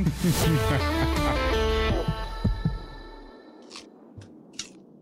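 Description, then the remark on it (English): A dense, bass-heavy musical passage fades out, then three sharp, crisp crunches of biting into an apple break the near silence at irregular intervals. “The apple crunch.”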